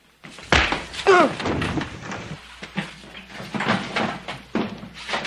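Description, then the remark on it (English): A kitchen door slams hard, followed by a brief squeaky creak and a string of softer knocks and rattles as it settles; no one speaks. “The kitchen door.”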